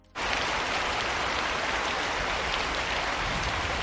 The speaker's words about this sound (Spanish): Mucha lluvia durante toda la mañana a lo largo y ancho de nuestra región, con aviso amarillo de la EMET por esas precipitaciones y también con la amenaza de tormentas, además de fenómenos costeros en la costa oriental.